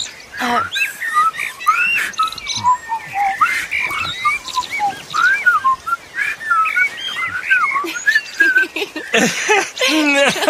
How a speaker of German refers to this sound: Was das wohl für ein Vogel war?